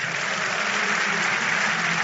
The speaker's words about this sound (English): Give him thanks. Hallelujah. Don't you think God deserves a bigger clap?